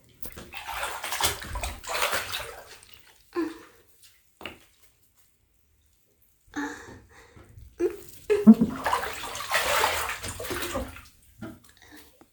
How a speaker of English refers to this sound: You want to see me drip this water all over my body? Okay. Again.